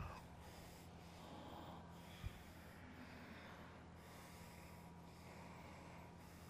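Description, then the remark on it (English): Ujjayi breathing through the throat during a yoga flow: a soft, continuous hissing rush of air that swells and ebbs in slow waves, fairly faint and steady, with no talking. “Let's hear your voice, Ujjayi breathing.”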